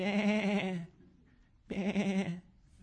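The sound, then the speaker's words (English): Two loud sheep bleats, each a wavering nasal call lasting under a second, separated by a brief quiet gap. “Let me pet you, little sheep.”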